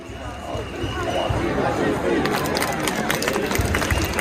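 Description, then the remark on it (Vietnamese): A large protest crowd of demonstrators dressed in black, wearing masks or with covered faces, fills the air with dense, steady noise; voices chant slogans together, such as anti-capitalist slogans, while sharp rhythmic clapping joins in and grows more prominent in the second half, loud throughout. “Thu hút sự chú ý bởi những tràng vỗ tay theo nhịp, cùng hô vang những khẩu hiệu như chống tư bản, nhóm người biểu tình trong trang phục màu đen, đeo khẩu trang hoặc trùm kín mặt, được gọi là Black Bloc, hội áo đen.”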